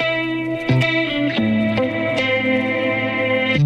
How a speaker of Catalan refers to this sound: I avui la cançó del dia